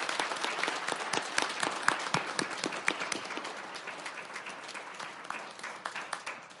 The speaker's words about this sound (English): So with that, I'd like to ask for a round of applause for all the awardees.